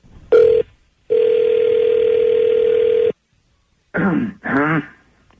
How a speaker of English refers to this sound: Okay. I'm going to dial up a cell phone. Here we go, guys.